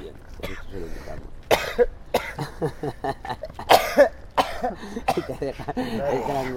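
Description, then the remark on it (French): Harsh, phlegmy coughing from a smoker on waking after smoking heavily the night before: several loud bursts in an irregular run, broken up by raspy throat-clearing and groaning vocal sounds. “Et quand on a bien fumé la veille, on tousse au réveil.”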